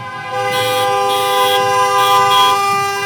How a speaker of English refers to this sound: But first, protesters are back at Michigan's Capitol today. Some gathered in front of the Capitol building in Lansing. Others stayed in their vehicles and beeped their horns as they drove through downtown.